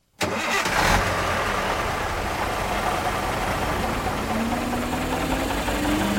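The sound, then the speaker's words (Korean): A Hermit's Rest Route shuttle bus along the Grand Canyon rim runs its engine with a loud, steady rumble right from the start, its pitch slowly rising in the second half as it pulls away and gathers speed. “제일 먼저 협곡의 가장자리를 따라가는 허미츠 레스트 루트 버스를 탔다.”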